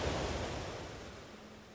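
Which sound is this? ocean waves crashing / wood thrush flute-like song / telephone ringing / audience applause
ocean waves crashing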